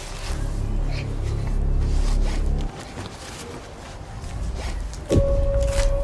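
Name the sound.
rummaging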